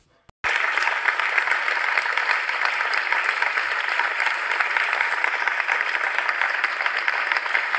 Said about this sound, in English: A huge round of applause for her.